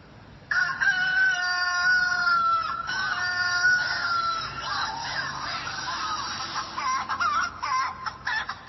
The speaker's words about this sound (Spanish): Que tú no sabes el sentimiento que los gallos le están metiendo a eso, güey.